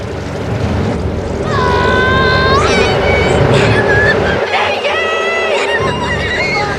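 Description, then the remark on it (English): A thick, hairy bumblebee buzzes loudly as it lands on a flower, its droning pitch swooping up and down in waves over a dense, rumbling background that runs the whole time. “A thick, hairy bumblebee lands on Nick's flower.”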